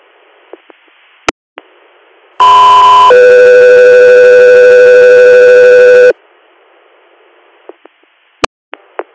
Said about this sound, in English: Guthrie Air, standby for tones.